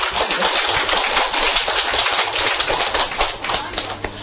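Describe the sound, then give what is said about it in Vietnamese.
A crowd claps steadily for about four seconds in a round of applause for Phú Lâu Na (Purna), a dense wash of overlapping hand claps that holds fairly loud before thinning slightly toward the end. “cho Phú Lô Na tràng pháo tay đi.”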